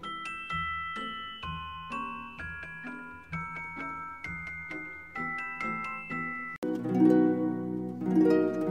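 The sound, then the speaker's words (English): Bright, bell-like notes from a celeste, a small piano-like instrument with metal bars instead of wire strings, chime in a gentle melody over soft low accompaniment, then a fuller, richer passage swells in near the end. No voices are heard. “They give the celeste its bell-like sound.”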